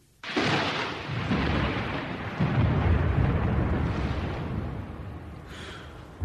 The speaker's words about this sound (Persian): باران می آید و ما تا فرصت سلامی دیگر خانه نشین می شدیم.